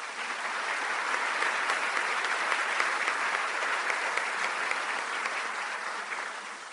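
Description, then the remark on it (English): Steady applause from a luncheon audience for the event's sponsors, a dense wash of many hands clapping at an even, fairly loud level for several seconds with no voices over it. “A round of applause for today's sponsors.”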